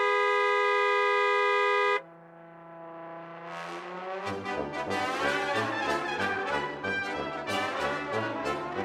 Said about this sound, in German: Es gibt verschiedene Hubsprachen. Manche klingen hoch und tief oder lang oder kürzer. Düt, das ist ein freundliches Hallo-Hupen. Hup! Wenn jemand ganz sauer ist und dann hupt, dann ist es so richtig laut.